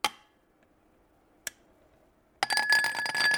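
Glass beakers clink together as Monegal mixes handmade extracts and infusions in his laboratory in the mountains of northeast Spain: two bright, isolated taps with ringing decay, then a busier stretch of continuous jostling and chiming glass. No voices.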